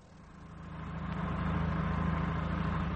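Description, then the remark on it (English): A plane engine starts up and turns over, its low, throbbing rumble swelling in loudness over the first second and a half, then settling into a steady, even drone. No voices. “Well, better get the engine turning for my lord and master.”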